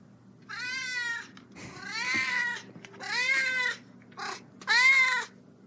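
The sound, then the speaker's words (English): An almost 18-year-old male cat in a garage meows in greeting five times in a row, loud, drawn-out and harmonic-rich, with one shorter call near the end, over a steady low hum and no talking. “So here's how he greets us when we come out in the garage.”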